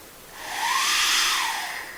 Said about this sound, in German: Und der Generator dazu, den habe ich einfach mal auch ausgedruckt. Ja, das ist einfach nur so ein Teil von dem Ding. Und wenn ich da reinpuste, macht es auch einen Ton. Klingt aber ganz anders.